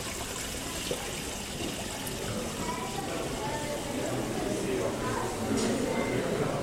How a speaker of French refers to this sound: Il n'y a qu'à regarder l'ambiance de la salle à manger avec ce cours d'eau qui ruisselle, et dont le chuchotement et le clapotis peut être ce clin d'œil perpétuel à l'eau.